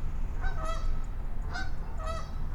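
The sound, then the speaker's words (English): A lot of Canada geese honk in a loose series of nasal, harmonic calls, three bursts spaced across a couple of seconds over a steady low rumble of background noise. “A few mallards and a lot of Canadas.”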